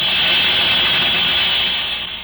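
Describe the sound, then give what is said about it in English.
A radiator letting off steam: a steady, loud hiss, bright and airy, holding constant for about two seconds before tapering slightly at the end. No voices are present. “That's a strange sound for California, but I've got it. A radiator letting off steam.”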